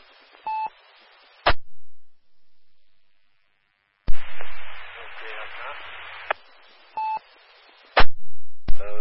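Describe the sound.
Bursts of band-limited radio hiss with short electronic beeps between transmissions, and a longer stretch of static carrying a very faint, barely discernible modulated voice from an unidentified amateur radio station deep in the noise.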